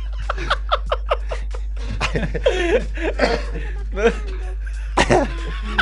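Close to the microphone, a burst of rapid laughter turns into several rough coughs and throat-clearing sounds, loud and uneven, with no clear speech.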